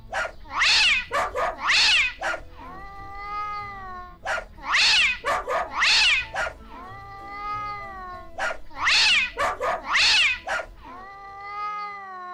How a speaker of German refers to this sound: Welchen Rhythmus haben da der Hund Synkopus und der Kater Tritonus gebellt und gefaucht? Könnt ihr den nachklatschen, nachbellen oder nachfauchen?